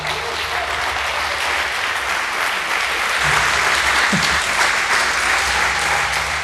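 Sustained applause from a sizable audience for two participants, a dense, steady wash of clapping that fills the whole stretch at an even, fairly loud level without pausing.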